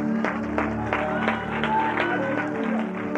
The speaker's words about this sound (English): Come on and clap.